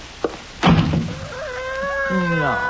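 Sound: door slamming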